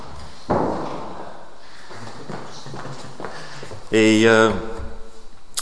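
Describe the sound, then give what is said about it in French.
A door swings shut with a solid thud, followed by a few softer knocks and a brief, squeaky creak, with no talking over it. “Attends, je vais juste fermer la porte.”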